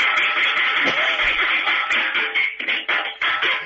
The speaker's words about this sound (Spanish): ¿Puede hacer usted una especie de redoble de batería con la cacerola, la para ver cómo queda? Un break. Allí va.